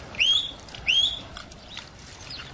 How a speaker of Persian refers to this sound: سوت میزنم خاطر اینکه علی بیاد دم در